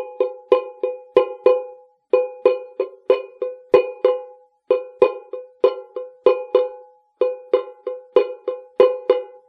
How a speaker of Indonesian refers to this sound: Baik, kelompok A memukul kaleng dan kelompok B mengamati kaleng yang dipukul oleh kelompok A. Ya, yang diamati adalah kalengnya, bukan suaranya.